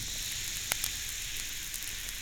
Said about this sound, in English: The thing to do when you're troubled with these ailments is to get out your package of Alka-Seltzer tablets. Toss one or two into a glass of water like this. Listen to it fizz.